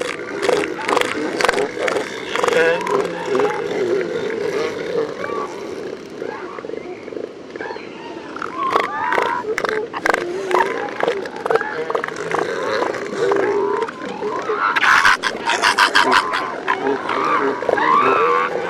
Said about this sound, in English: here are some more of Mark's recordings from the elephant seal colony on San Miguel Island. Females and pups call out while bulls clap their flippers